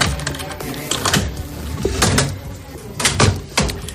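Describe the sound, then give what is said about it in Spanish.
A metal locker at the entrance of a building, used to store a mobile phone after identifying at the door, being handled: a run of sharp clicks, rattles and clacks, ending with the door shutting, over a busy background with no clear speech. “Al entrar por la puerta es necesario identificarse, depositar tu teléfono móvil en una taquilla que hay a la entrada.”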